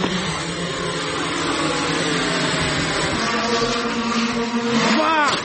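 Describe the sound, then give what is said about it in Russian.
A drone launch from five years ago: a loud, steady buzzing motor whine with layered tonal hums runs throughout, then sweeps sharply upward in pitch just before the end. “Это запуск дрона 5-летней давности.”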